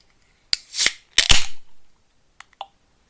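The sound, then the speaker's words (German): A beer can is cracked open twice, each sharp metallic snap followed by a short burst of fizzing hiss, then a couple of faint light clicks; no voices. “Das war auch eine Ach, Bierdose.”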